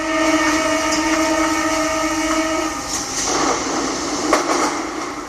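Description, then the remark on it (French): A metro train runs steadily on the way to Château Rouge, with a loud rumbling drone and sustained high-pitched tones, joined by sharp metallic squeals and clacks, with no one talking. “Elle a pris le métro et elle a rencontré quelques figures du wax parisien.”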